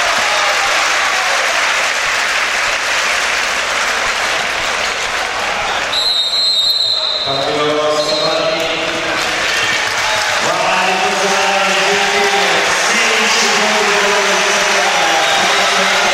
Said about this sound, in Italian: Esce Gentile tra gli applausi scroscianti del Palamangano.